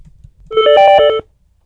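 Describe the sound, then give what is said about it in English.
A short electronic phone ring from a transferred call, a single burst of bright warbling harmonic tones lasting under a second, fairly loud with no talking over it. “I don't have any button ringing. I don't know how to pick it up. She got transferred to me.”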